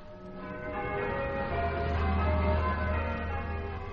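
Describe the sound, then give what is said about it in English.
Church bells ring at the start of a song with long, overlapping tones that hum and shimmer together, a steady resonant wash with a deep low drone swelling in partway through, with no voices. “here's a bell song”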